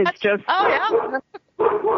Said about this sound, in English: If I try and tell the dog to stop barking, she'll only bark more because she thinks I'm barking at her. So, what kind of dog is this?